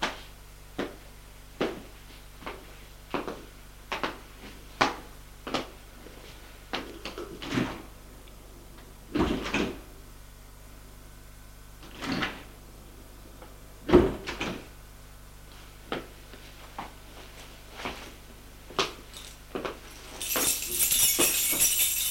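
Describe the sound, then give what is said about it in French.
A flat's door is opened without ringing the bell and shut behind the person entering, amid a string of sharp wooden knocks and clicks, with a couple of louder thuds and a faint background hum, no voices present. “Julien ouvre la porte sans sonner, pour pas réveiller la bonne. Entre, il entre, ferme la porte derrière lui,”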